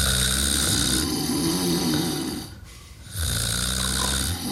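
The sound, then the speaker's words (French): Loud snoring with a rough, grunting pig-like quality, two long rattling inhalations separated by a brief quieter pause, with no talking. “Là, on a entendu quoi ? Un cochon ou un bruit de langue ? C'est plus le côté là, cochon.”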